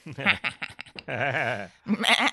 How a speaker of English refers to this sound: Oh, that was the sheep one.